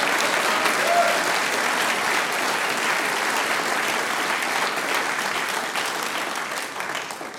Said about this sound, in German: Und Applaus für die Gruppe, die mit dem Vorradl angereist sind.